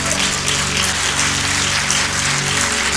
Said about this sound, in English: Clap those hands.